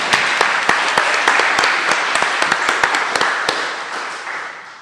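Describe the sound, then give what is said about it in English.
A crowd at a seminary convocation applauds steadily, with many sharp, overlapping claps forming a dense wash of sound that stays fairly loud and then begins to taper off toward the end. “but we can clap for you”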